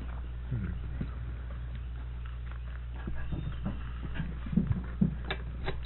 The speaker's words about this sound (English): Yes, sir, I can see some of those beautiful horses picking up the feet.